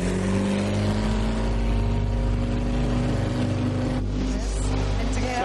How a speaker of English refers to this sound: Destroyers, on the sound of the hooter, launch your first mini. Here you go then, chaps. They start the engine.